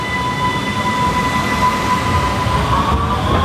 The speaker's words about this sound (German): In der U-Bahn-Station am Stephansplatz warten die Fahrgäste auf die nächste U-Bahn der Linie 1.